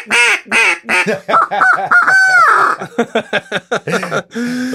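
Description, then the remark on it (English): A duck call being blown, choked off a little to make a hoot owl cadence, producing a loud, rapid run of nasal quacks with a few drawn-out notes mid-sequence and a lower, steadier tone at the end; no talking. “And for proof, here, listen, this is a duck call.”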